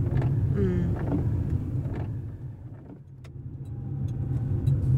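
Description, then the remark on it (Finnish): A car drives steadily on its way to a petrol station, its engine and road noise forming a continuous low rumble with faint higher rattles, with no one talking. “No mihin me nyt mennään? Huoltoasemalle. Bensa käy vähin.”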